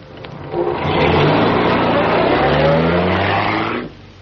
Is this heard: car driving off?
yes